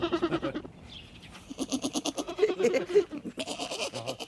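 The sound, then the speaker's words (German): A small goat bleats repeatedly in shaky, wavering cries, with short pauses between the calls and a few overlapping bleats toward the end. “Es hat eine lustige Sprache, so eine kleine Ziege.”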